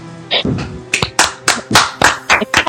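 Several sharp hand claps in a loose, uneven rhythm, about one every half second, bright and fairly loud, with a brief murmur of voices near the start.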